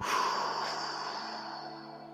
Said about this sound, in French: Donc, troisième et dernière fois, inspiration, rétention d'air, c'est-à-dire je bloque la respiration, je contracte tout le corps et souffle.